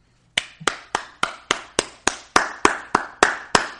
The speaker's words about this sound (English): Sorry, I had to give myself a round of applause. It was a perfect transition.